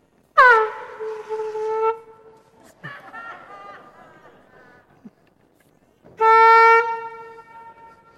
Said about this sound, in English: Some of you are looking a bit shocked. Either because I've brought an air horn and used it at church, or maybe because I've called time out in a sermon.